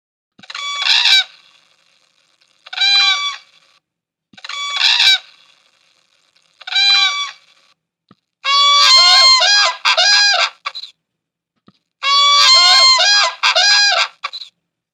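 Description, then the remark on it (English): Loud, bugling whooping crane calls ring out clearly, first as four separate trumpeting bursts, then as two longer overlapping duets of rapid, honking whoops, with no talking. “The sound you're about to hear again is a whooping crane.”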